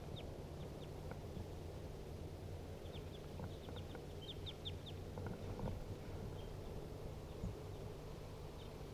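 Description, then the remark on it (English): Two wild birds call from the tree directly above a cage, trading short, high chirps in scattered bursts, fairly faint over a steady low hum and background noise. No one speaks. “Now they are sitting in the tree directly above the cage. Two wild birds calling.”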